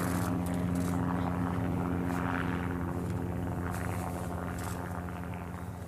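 A helicopter used to round up wild horses and burros off the rangelands, a method the BLM favours, drones steadily overhead, loud, its low rotor and engine hum holding constant with a rushing wash of air, fading only slightly toward the end. No one speaks.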